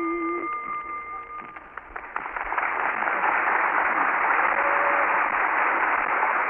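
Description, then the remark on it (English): Audience applause for a yodeler, a Boer War veteran, swells from scattered claps into a dense, steady roar of clapping that stays loud to the end, following a brief tonal note at the start. “Well, we like your applause, but we mustn't applaud too long.”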